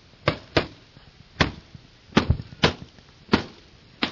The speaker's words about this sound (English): So I grabbed the radio and I said, 599 West Plains. I said, I'm hearing explosions over here off of Melissa Place.